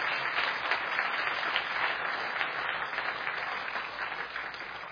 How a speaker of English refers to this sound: We got parents here tonight. Could I get parents to stand, parent-in-laws and all, whatever. Y'all stand. Mom and in-laws, look at that. Proud of them. How about a round of applause for them?